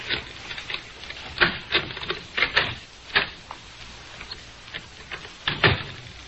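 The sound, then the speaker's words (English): Adhesive tape being pulled and wrapped around an old baseball bat by David and Ricky in the Nelson family living room, a series of short, crackling rips in an irregular rhythm, with no talking. “David and Ricky are taping up an old baseball bat.”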